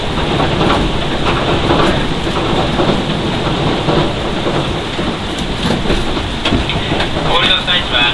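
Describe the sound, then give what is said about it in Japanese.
The Hamakaze No. 1 train runs steadily along the rails about two minutes from its terminus at Hamasaka, with a loud, continuous rumble and faint rhythmic clatter, heard from inside the carriage while a voice makes an announcement over the noise. “到着の際には列車が左右に揺れますので足元十分お気をつけください。”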